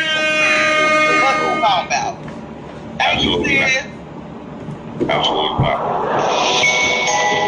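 Loud, brassy air horn blasts sound in several bursts: one long opening blare, a short burst midway, then a sustained final blast, with a noisy, crowd-like background throughout.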